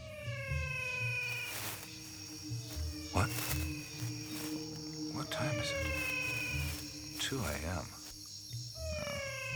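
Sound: frogs calling at night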